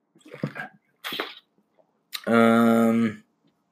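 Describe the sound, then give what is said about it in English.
A couple of quick wet gulps from a drink of Mio vitamin water, then a long, loud, satisfied voiced "ahh" held for nearly a second before silence. “Gives me time to breathe and to drink some of my delicious Mio vitamin water.”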